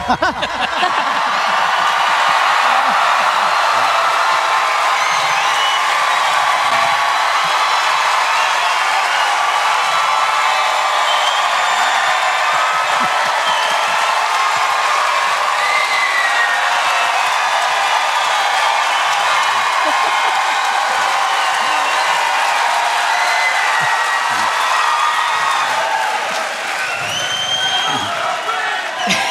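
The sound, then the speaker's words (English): A large live audience at the Ryman Auditorium in Nashville, Tennessee, bursts into loud, sustained applause on cue, mixed with cheers and whoops, a dense roar of clapping that holds steady for about half a minute before easing slightly at the end. “Hey, clap in 3, 2, 1!”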